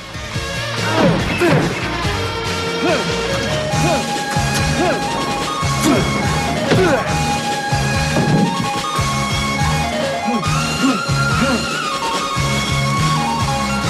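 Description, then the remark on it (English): Drago repeatedly slams his fist into a punch-measuring compressor, its digital counter showing higher figures each time: heavy thudding impacts every second or two, set against loud, dense dramatic music that fills the whole clip. “Drago repeatedly slams his fist into the punch measuring compressor, the digital counter showing higher figures each time.”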